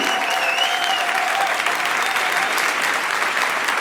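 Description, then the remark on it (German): Steady audience applause on stage as a woman is welcomed up, filling the whole stretch, a dense, even wash of many hands clapping at a constant loud level, with a faint tonal whistle or cheer briefly rising over it. “Da kommt sie, einer Applaus für Franzi!”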